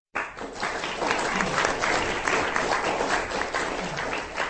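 An audience applauds after a lecture by historian Detlef Brandes at a conference at the Goethe-Institut in Prague, a dense, steady wash of many hands clapping that starts abruptly and holds at an even, fairly loud level throughout, with no voices standing out.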